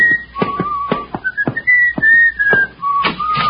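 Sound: person whistling a tune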